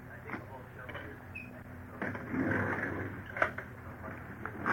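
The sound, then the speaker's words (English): The big drawer on the left of a desk slides open, then papers and objects rustle and clatter as someone rummages through it looking for multiple listing files, with one sharp knock midway and faint murmuring voices in the background. “Try the big drawer on the left.”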